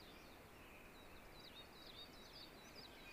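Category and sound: bird, eastern crowned warbler singing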